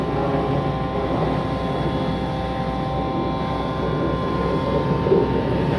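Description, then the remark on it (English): One of two vacuum trucks at the Marta Loop construction site runs with a loud, steady engine roar and a constant droning hum layered over rumbling low noise, unchanging throughout with no voices. “Two vacuum trucks within 20 paces.”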